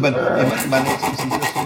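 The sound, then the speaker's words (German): Rapid, rhythmic rasping strokes of sandpaper rubbing back and forth on the wooden body of a cheap acoustic guitar, steady, heard in the background with faint voices murmuring; someone is sanding the guitar while fitting a small pickup into it. “der schleift gerade an so einer Billigklampfe rum, baut einen kleinen Tonabnehmer ein.”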